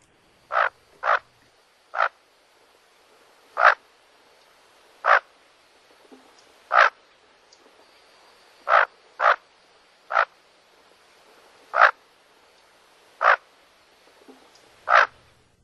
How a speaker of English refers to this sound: And I actually have audio of what a bufflehead sounds like. So why don't we take a quick listen to that?